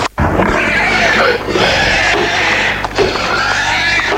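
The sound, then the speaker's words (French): Pigs grunting and squealing in a loud, agitated jumble, almost continuous for several seconds with no clear pauses between calls, as the excited pigs crowd around a frightened man. “Les porcs sentent qu'il a peur.”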